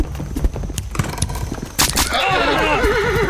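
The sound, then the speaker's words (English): Uneven clopping of horse hooves over a busy, rumbling background, followed by a loud horse whinny with a shaky, wavering pitch that carries to the end. “I hear horse hooves.”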